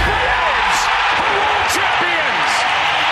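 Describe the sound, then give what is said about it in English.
A huge baseball stadium crowd roars and cheers as the Atlanta Braves win a championship, a loud, unbroken wall of noise with scattered whoops and shouts rising above the din for the full three seconds. “The Atlanta Braves have given you a championship. Listen to this crowd.”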